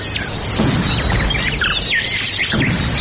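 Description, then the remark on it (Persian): Many flying birds chirp and tweet at once in a busy, overlapping chorus, with short upward and downward calls over a steady rustling outdoor background. No one speaks. “شنونده های عزیز سلام، درب برنامه را می گوشاییم و پرواز پرندگان را به تماشا می نشینیم که از بیم وسایل شکار شکارچیان در پروازند.”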